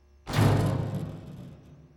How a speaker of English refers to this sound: I suppose it is our duty, both to the company and the well-being of Ms. Wilkins, that we break down this door and save her.